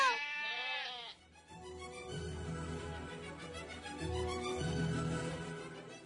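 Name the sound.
sheep bleating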